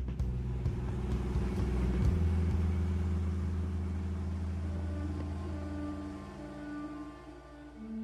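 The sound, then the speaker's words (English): A car engine runs steadily, a low droning hum with a throaty rumble that holds for several seconds, its pitch shifting slightly near the end. No voices. “If the bicycle gave him a certain degree of freedom, the car, I think, gave him a greater amount of independence and pride.”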